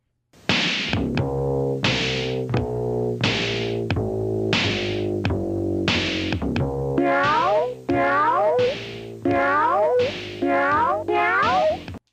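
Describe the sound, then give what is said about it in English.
A tune played on a keyboard by a cat, made entirely of sampled cat meows, each note a short pitched meow in a steady rhythm, first holding level then sliding and bending, loud with no talking. “He's playing this song that's just going meow, meow.”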